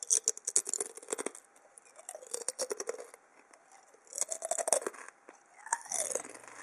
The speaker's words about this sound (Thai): เปรียบเทียบกับเสียงเคี้ยวมันทอดค่ะ